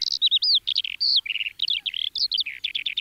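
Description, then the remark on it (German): A skylark sings a continuous, rapid stream of high, twittering notes, warbling and trilling with quick pitch changes and barely a pause. No one speaks. “Klingt nicht so richtig nach Lerche. Zeigst du mir mal, wie es richtig klingt?”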